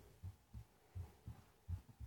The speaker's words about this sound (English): Just close your eyes and relax. Do you feel my heartbeat on your cheek?